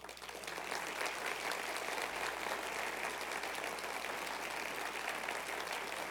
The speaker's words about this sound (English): Clap your hand.